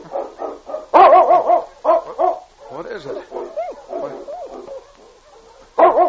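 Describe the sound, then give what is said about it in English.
A sled dog team barking and yelping in a busy, overlapping chorus, bursts rising and falling, with a voice briefly speaking over the din. “It's a dog team.”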